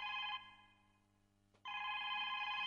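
telephone ringing

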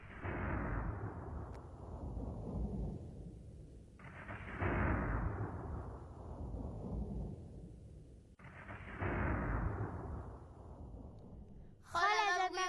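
thunder and lightning

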